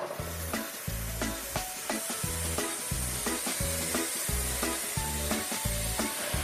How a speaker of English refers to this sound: Hook our air valve up. Uh-huh. Let's raise up the ram. Maybe it was already going. Top speed. Yeah. That hissing seems to indicate a certain loss of pressure.